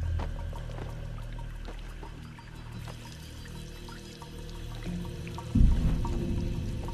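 household object, shower water running

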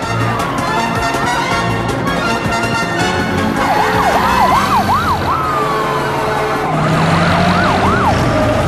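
vehicle, emergency vehicle sirens

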